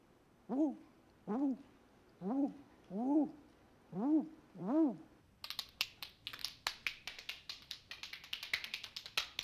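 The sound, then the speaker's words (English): A voice imitates a barn owl call with six evenly spaced, arching hoots, loud, followed by a burst of rapid, clattering clicks. “The barn owl.”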